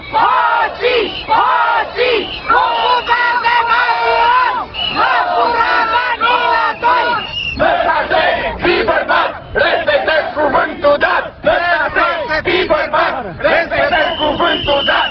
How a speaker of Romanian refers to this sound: Au strigat astăzi pe străzile Bucureștiului 1000 de investitori FNI, în speranța că își vor recupera banii depuși la Fondul Național de Investiții.